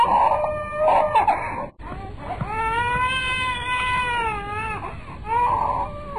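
A small infant cries out in shrill, wailing bursts inside a row house, with one long sustained wail in the middle, loud, with no one talking.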